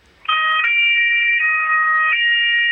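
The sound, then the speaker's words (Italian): The official siren of the Italian State Police, a loud two-tone siren alternating between a higher and lower pitch in a steady hi-lo pattern, continuous with no voices over it. “Senta, questa è la sirena ufficiale della Polizia di Stato.”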